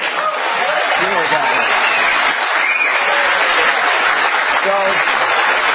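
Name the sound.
studio audience applauding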